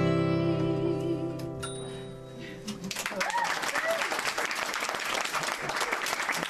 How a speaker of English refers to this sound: Yeah, it was a round of applause